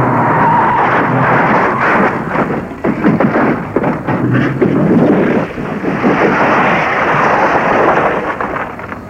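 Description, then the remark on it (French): A car misses a bend and crashes off the road, tumbling into a ditch and hitting a tree, breaking a window. A loud, continuous roaring rumble is broken by a cluster of thuds and crunching impacts midway, with no voices. “Le conducteur était tellement excité et énervé qu'il a raté un virage et a fait dégringoler la voiture dans un fossé qui a cogné un arbre, vitre brisée, devant la voiture défoncée.”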